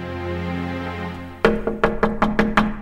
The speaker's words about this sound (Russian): Хворост не горел. Вдруг в окно постучали.